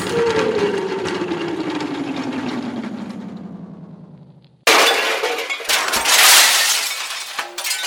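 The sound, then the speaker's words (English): A long whistling tone slides steadily downward for several seconds as a figure hit by a slingshot shot falls, then cuts into a loud, sustained crash as he falls into a transmission tower and it topples, full of shattering, clanking metal and breaking debris. “He's fallen, all right. Right into the transmission tower.”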